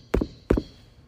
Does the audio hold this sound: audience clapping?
no